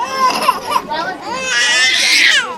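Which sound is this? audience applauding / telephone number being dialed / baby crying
baby crying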